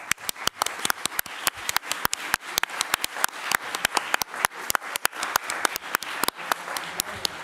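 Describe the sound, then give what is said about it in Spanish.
An audience applauds the actors and composer of a TV series before a press conference, a brisk, steady clatter of many hands clapping for several seconds, sharp individual claps standing out above the dense wash, with no talking. “Os pido también un fuerte aplauso para todos ellos.”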